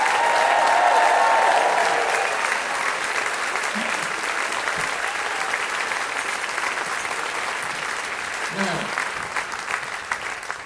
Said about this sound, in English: Everyone from the primary school stand up. Weren't they good? That applause is for you. Give a big cheer, please.